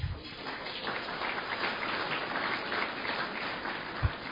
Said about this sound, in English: I wish to acknowledge Telstra as a corporate supporter of the Press Club and to welcome representatives of Telstra here today. Please applaud them.